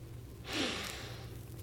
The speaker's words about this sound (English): Come here a second. Now put your nose right here. Now, sniff.